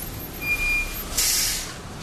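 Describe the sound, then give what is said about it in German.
A truck delivering old fluorescent lamps from a municipal waste collection point to a fluorescent lamp recycling plant in Essen, Germany, idles with low engine rumble, then a sharp burst of air brake hiss releases for about half a second before fading back to the engine noise. “Ein LKW liefert alte Leuchtstofflampen von einer städtischen Abfallsammelstelle an.”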